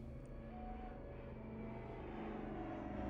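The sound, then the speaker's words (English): A steady, droning propeller-plane engine hums with layered low tones, growing slightly louder as it approaches over mountains across the three seconds, with no voices present. “The sound of an approaching plane broke George's train of thought.”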